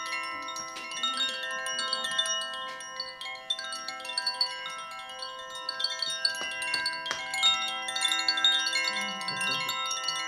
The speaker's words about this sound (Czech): Zvonek ukončil pravidelný dopolední rituál a děti se mohly následně věnovat další práci.